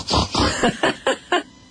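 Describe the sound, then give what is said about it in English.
A child's voice imitates a pig, making a quick run of about six snorting oinks, the first ones longer and the rest shorter and evenly spaced, fairly loud. “What does the pig say?”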